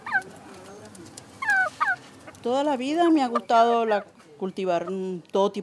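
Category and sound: bird, chickens clucking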